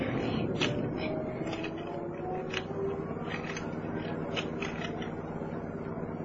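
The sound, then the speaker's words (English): A car window is cranked up with a series of soft mechanical clicks and squeaks as a storm arrives, over the steady low hum of a running engine. “Wind up the window.”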